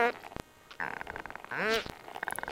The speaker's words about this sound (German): Ein bisschen hört sich der Schweinswal an wie eine knarrende Tür. Dabei ist das nur ein niederfrequentes Nebenprodukt der eigentlichen Töne, denn die liegen im Ultraschallbereich.